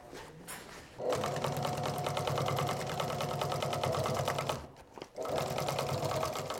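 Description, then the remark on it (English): A sewing machine binds the edges of a bag, whirring into a fast, steady rhythmic stitching after a quiet second, running for several seconds, stopping briefly, then starting up again. No one speaks. “yes, and I'm just gonna go bind the edges and then pass it off”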